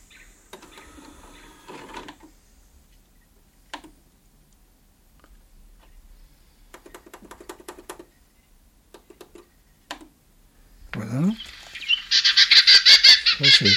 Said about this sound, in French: La fauvette Orphée, voilà, occidentale. Alors donc, on va commencer par, il va y avoir quelques cris et le chant français.